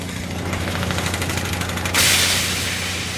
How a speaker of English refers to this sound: That's a downhole hammer, actually drilling frozen ground.